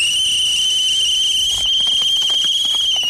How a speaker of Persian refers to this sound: میرزا باقر سوتش را بر دهان می‌گذارد.